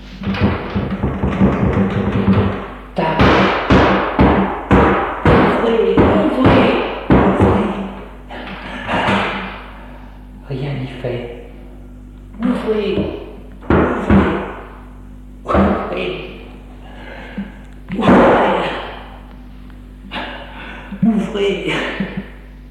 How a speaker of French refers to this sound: Il va ouvrir la porte.